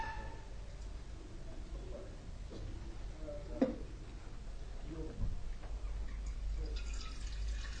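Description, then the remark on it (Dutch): 125 millilitres of lukewarm water being poured into a bowl of dough mix, with soft splashing and a few brief drips over steady low background noise. Fairly quiet, with no talking. “Dan gaan we water aan toevoegen, 125 milliliter. En ik gebruik zelf altijd lauw water in plaats van koud.”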